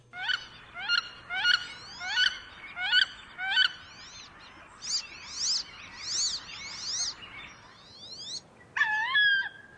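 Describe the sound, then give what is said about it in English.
A wood duck, one of the ducks heard in New England in the summertime, gives a run of sharp, evenly spaced calls, then shifts to drawn-out rising squeals and ends with one loud cry. The calls are clear, with no talking. “So let's hear the wood duck again.”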